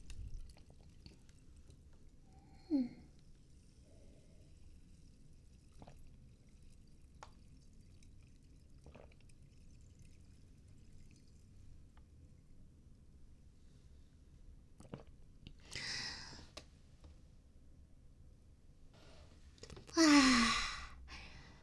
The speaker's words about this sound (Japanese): 炭酸の元でしたなんかすごいこの泡の感じがシュワシュワシュワって感じで感じでばっかり言ってちょっとくすぐったかったですけれど、いい感じにシュワシュワ言ってたのではないでしょうか